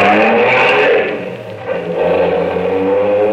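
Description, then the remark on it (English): A Bentley's engine roars loudly, dips briefly, then climbs steadily in pitch as the car speeds off in pursuit of another car, with no voices over it. “Follow that car. Quick, hurry.”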